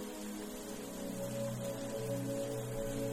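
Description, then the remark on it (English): Gentle spring rain falls in a steady, even patter throughout, with a soft sustained hum of tones underneath. No one speaks. “Settle into the couch on the veranda as you watch the rain gently fall.”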